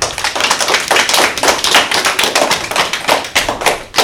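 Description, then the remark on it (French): A group of young children at the Paul Langevin school radio applauds two first-grade (CP) pupils playing the Bubble Game, with dense, uneven clapping that continues steadily throughout, fairly loud with no voices. “On peut les applaudir.”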